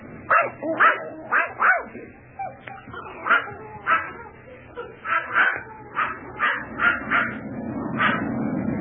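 A small, wet dog named Corky barks repeatedly in quick, sharp yaps, fairly loud, with short pauses between bursts over a low background rumble.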